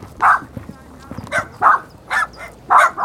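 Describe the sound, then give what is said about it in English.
Small dogs yap repeatedly in quick, irregular bursts, about five sharp barks in a few seconds, loud over a low rumbling background, in a remote area where people live in tents. “The area is full of yapping dogs and cats sneaking around.”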